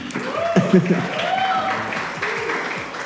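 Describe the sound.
A crowd claps steadily for about three seconds, a dense, even patter of many hands, with scattered voices and a few rising whoops mixed into the applause.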